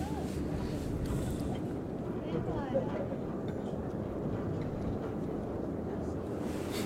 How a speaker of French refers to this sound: C'est-à-dire que là, je sais pas si c'est le moteur du téléphérique du plan de l'aiguille ou les deux qui fonctionnent. Oui, parce que les deux peuvent marcher en même temps.